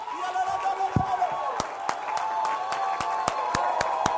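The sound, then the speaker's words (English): An audience at a Holy Ghost-filled church service claps in a steady, quick rhythm, sharp hand claps ringing out over a warm wash of crowd noise and sustained voices or music. “This is a hand clapping, aisle running, devil chasing, Holy Ghost filled.”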